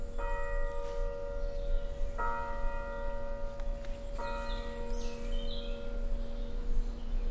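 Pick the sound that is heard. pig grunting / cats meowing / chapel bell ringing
chapel bell ringing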